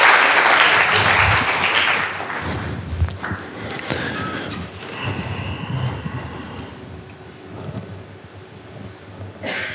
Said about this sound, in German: Nochmal einen Applaus. Dankeschön.